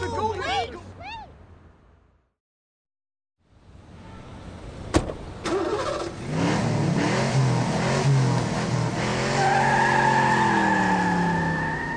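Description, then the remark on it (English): After a brief voice and a moment of silence, a car door clunks, the engine roars and the car speeds off loudly with tires skidding and squealing. “Come on, let's follow the car.”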